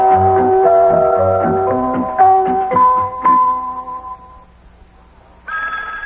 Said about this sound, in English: There's the telephone again. Hey, the telephone's ringing.